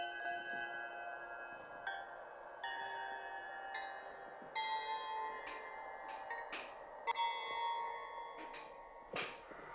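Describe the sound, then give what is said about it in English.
Crystal bells ring in a series of repeated strikes, their bright shimmering tones overlapping and sustaining between hits; moderately quiet, with no talking. “Crystal Bell, A.”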